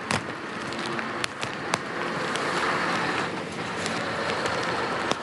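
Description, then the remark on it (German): A knife slices open a sack, the front one of hundreds of sacks in a truck, with a steady, crackling rip of tearing material, punctuated by a few sharp snaps and clicks, fairly loud, with no voices. “Bitte schön, das hier ist die Schere und das Messer, das jetzt hier ist, und jetzt schneiden wir da.”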